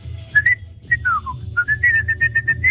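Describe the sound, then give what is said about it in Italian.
A person whistles a song, with clear pitched notes gliding up and down in a steady, lilting rhythm over a low background hum, fairly loud. “Ce la sta cantando, ce la sta fischiando la canzone, immagino.”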